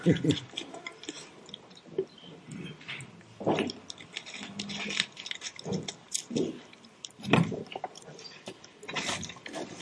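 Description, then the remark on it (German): A person takes sips of water up close, with soft wet mouth noises, swallows and quiet breaths spread across a pause, and no talking. “Und bevor ich weiter rede, werde ich mir einen Schluck Wasser gönnen.”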